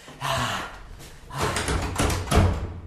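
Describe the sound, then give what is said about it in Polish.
Someone tries a locked emergency exit door, the handle and door rattling and clunking in several quick jolts that refuse to give way. “Zamknięte. Drzwi zamknięte.”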